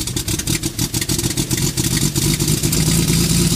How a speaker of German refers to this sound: Da dröhnt auch schon der Motor auf. Die Maschine rollt auf die Startbahn, holt Luft, nimmt Anlauf, reckt die Nase hoch.